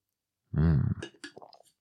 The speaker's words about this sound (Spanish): Voy a echar otro traguín.